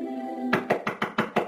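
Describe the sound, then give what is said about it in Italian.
A steady tone fades out, then someone raps on a door six times in a quick, even rhythm: fairly loud knocks with no voices. “Bussano alla porta.”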